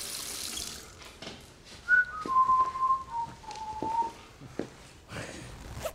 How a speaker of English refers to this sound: A ominous whistling and zipping up by Michael Shannon.